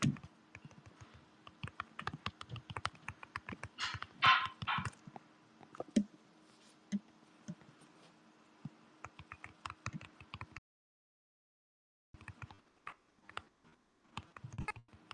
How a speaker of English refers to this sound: Wonder if you can hear me typing.